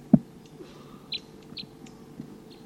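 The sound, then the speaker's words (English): A wild male bird in the top of a tree gives a few short, high-pitched flight call notes, two clearer chirps spaced about half a second apart, over a low background rumble, with a sharp thump at the start. “It's been about 5 minutes since those wild birds showed up, and there's a wild male here still tooping up in the top of a tree, occasionally giving flight calls, and doesn't want to come down.”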